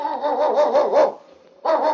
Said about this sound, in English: It's Yukon King, swiftest and strongest lead dog of the Northwest, blazing the trail for Sergeant Preston of the Northwest Mounted Police in his relentless pursuit of lawbreakers. On King! On, you husky!